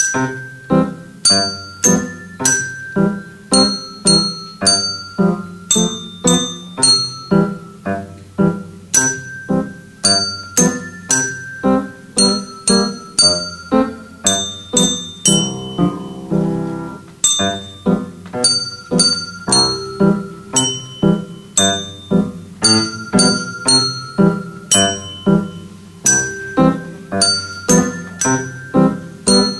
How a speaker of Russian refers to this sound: исполнил для всех собравшихся мелодию на настольных колокольчиках.